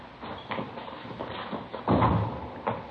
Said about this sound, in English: Uh-huh. Here, I'll get the door. All right.